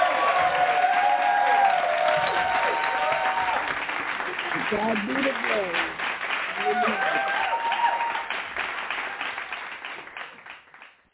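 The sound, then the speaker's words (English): A church audience claps hands in sustained, dense applause to welcome a woman reading poetry, with voices calling out and cheering over it; the clapping stays strong for several seconds, then gradually fades. “So we're going to welcome her with a hand clap praise.”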